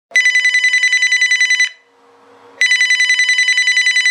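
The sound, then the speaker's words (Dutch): A telephone rings in two long bursts of rapid, buzzy trilling bells, loud and high-pitched, separated by a pause of about a second with faint background noise. “Ik bel je omdat ik vandaag de resultaten van je bloedonderzoek gekregen heb.”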